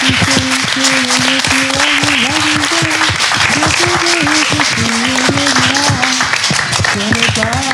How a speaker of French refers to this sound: Alors je pense qu'on peut, même s'ils sont pas là, on pourrait applaudir très fort Clément, Hugo et Manu.